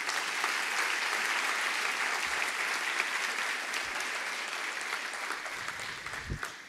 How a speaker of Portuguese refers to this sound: Você pode aplaudir ao nosso Deus?